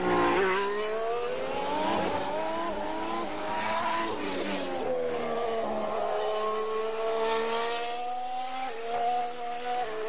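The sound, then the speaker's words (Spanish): A Formula 1 car, Alonso's car with a Renault engine, screams past at the trackside, its loud high-pitched whine climbing and dropping through several gear changes over about ten seconds, with no voices. “Mira, espera un momento, me parece que viene por aquí el motor Renault.”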